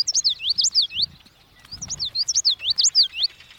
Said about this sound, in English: The common yellowthroat.